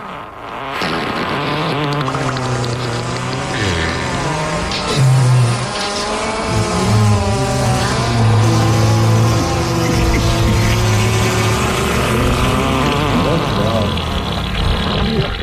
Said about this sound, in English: How about a fart montage and … talking about what a teacher is supposed to do on a summer break?